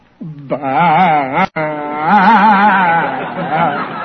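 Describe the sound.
A man's voice imitates a goat's mating call, drawing out a long, wavering bleat with a quick break partway through, loud and trembling with vibrato.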